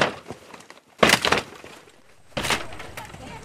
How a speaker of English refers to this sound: platoon kicks open doors and searches empty houses.